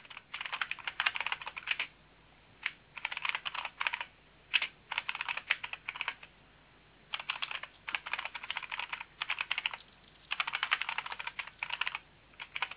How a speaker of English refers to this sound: The organization, please? The organization is the Groningen. I'll type it on the chat.